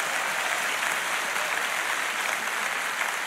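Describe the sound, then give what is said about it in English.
A church audience applauds: a steady, dense wash of many hands clapping at once, evenly loud throughout with no voices on top. “Now just clap your hands for them. Give them a little round of applause.”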